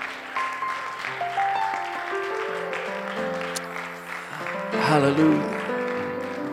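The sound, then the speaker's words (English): A church audience claps steadily for several seconds to applaud the Lord, while sustained organ or keyboard chords play underneath, with scattered voices in the crowd and the applause swelling briefly near the end. “Can we applaud the Lord for His goodness?”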